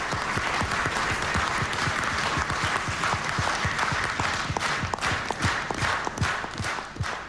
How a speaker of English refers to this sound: It was met with shocked silence. Here's what happened next. Iraqi journalists applauded.